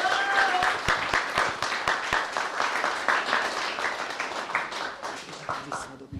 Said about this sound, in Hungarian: köszöntsétek nagy tapsát.